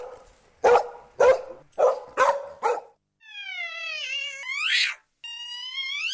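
A dog barks five times in quick, sharp succession, loud, then falls silent as a long, drawn-out cat-like yowl takes over for the remaining seconds.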